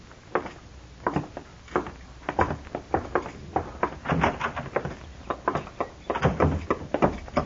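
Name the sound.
door opening and closing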